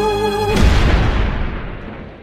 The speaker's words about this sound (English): Cue the cannon.